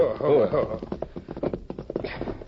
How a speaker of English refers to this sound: Oh. Yeah, that's the sheriff's horse all right enough.